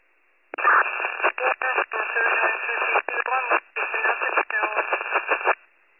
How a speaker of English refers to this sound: You're all static.